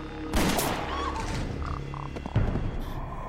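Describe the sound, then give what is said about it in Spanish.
Gunfire rings out in two loud, sharp bursts about two seconds apart, each leaving a rumbling echo over a steady background din; shots fired at a person at the door of an airplane. “De alguna forma, Renita Davi sobrevive al disparo y se aleja del avión”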